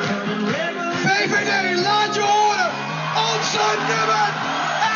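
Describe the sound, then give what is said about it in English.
A man shouts "Welcome our number one" loudly over a pumping pop song while a crowd in a hall in Scheveningen, near the North Sea beach, cheers and whoops to celebrate Prime Minister Mark Rutte's party's Dutch election victory, the music and voices dense and continuous throughout. “Welcome our number one, shouted a man on the tunes of a pop song.”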